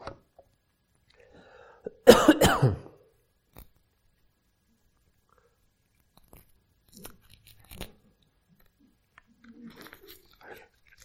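A cough drop wrapper is torn open with a short, loud ripping burst, followed by scattered faint crinkles and clicks in an otherwise quiet space with no talking.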